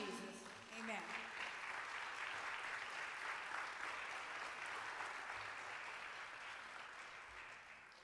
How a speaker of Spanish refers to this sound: Un aplauso al Señor, hermanos.